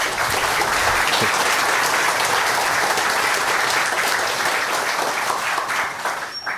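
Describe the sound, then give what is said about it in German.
Steady, dense applause from an audience welcoming the speaker of a talk on running large language models locally, many hands clapping at once in a continuous loud wash that holds throughout and tapers only slightly at the end. “Bitte einen Applaus für ihn.”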